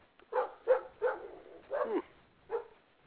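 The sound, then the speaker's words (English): Dogs tearing past bark five times in quick, uneven succession, sharp and moderately loud, with brief gaps between barks and no one talking over them. “Dogs just went tearing by here like there was something after them, or they were after something.”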